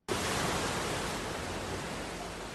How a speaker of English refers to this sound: Waves lap up against the beach outside Oceanium, a scuba diving center and environmental organization in Dakar's Southern Plateau neighborhood.